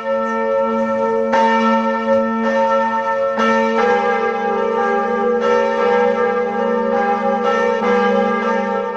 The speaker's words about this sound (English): Of Notre Dame Cathedral ringing out together for the first time since the devastating fire of 2019. The 850-year-old building, widely thought of as one of the finest examples of French Gothic architecture, will reopen to the public next month